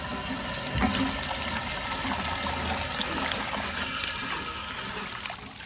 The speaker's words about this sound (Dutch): We zijn in het Parc de la Rosée in Anderlecht, vlakbij een waterfontein.